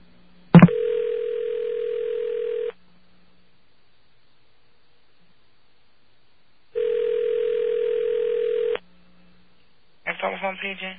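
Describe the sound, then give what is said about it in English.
A click, then a steady telephone tone sounds in two long, even bursts about two seconds each with a pause between, before a voice briefly begins speaking at the end, as a call is placed to a New York telephone operator. “I'm going to get a New York telephone operator on the phone.”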